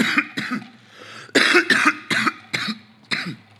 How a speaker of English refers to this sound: Excuse me, that moon rock. Those moon rocks make you cough like a motherfucker, huh?